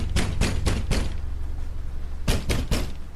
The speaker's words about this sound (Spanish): Continuaron golpeando la puerta.